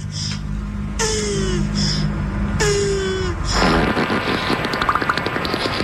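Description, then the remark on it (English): A beaver fart: two squeaky, downward-sliding blasts with a hissy edge, followed by a longer, rough, sputtering rattle. No one speaks over it. “Yeah, it's funny that he wanted to hear a beaver fart.”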